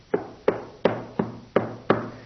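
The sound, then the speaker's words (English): Six steady knocks on a neighbor's door, evenly spaced about a third of a second apart, each a sharp thud with a short resonant tail, moderately loud with no voices. “And so he goes to his neighbor and he starts knocking on that door.”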